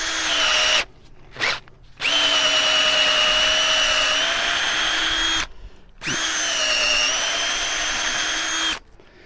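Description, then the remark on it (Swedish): A power drill whines steadily as it bores a hole into the wood of a tree, running in several long bursts with brief pauses and short blips between them, loud with no talking. “Så det är väl, så borrar man bara ett hål.”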